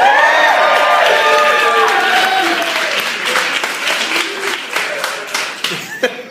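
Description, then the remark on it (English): A crowd claps and cheers loudly at the 8 o'clock show at Wise Guys in Utah, during the Leonard Maltin game, with shouts and whoops over steady applause that gradually thins out into scattered individual claps. “It really sounded like someone was slowly murdered to me during that applause.”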